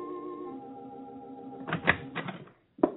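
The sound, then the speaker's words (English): A sustained musical tone fades, then a few sharp knocks rap on a house door at night in quick succession, followed by a short pause and one more solid thud. “Consequently, he was somewhat surprised one night when he answered the knock at his door.”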